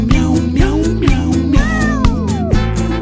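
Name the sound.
cat meowing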